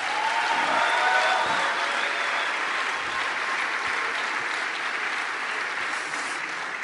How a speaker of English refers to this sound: Him and his beautiful wife are here. Let's give them a round of applause.